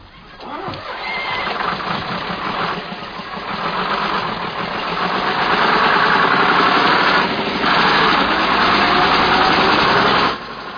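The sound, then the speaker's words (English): A double-decker bus engine roars and strains through a chase scene in a James Bond film, its steady rumble carrying a whining high tone that swells louder midway and holds to the end, with no voices. “This chase was a lot of fun to shoot with the double-decker bus.”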